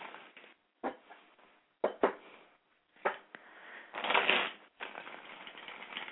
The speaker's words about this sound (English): Let me shuffle the cards.